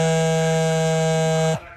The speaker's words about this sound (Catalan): Missatge? Qui m'envia un missatge a aquesta hora?